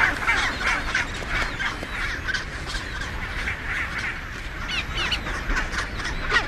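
A dense chorus of raucous, braying bird calls from a chinstrap penguin colony on the Antarctic Peninsula, many voices overlapping continuously at steady loudness, with no talking.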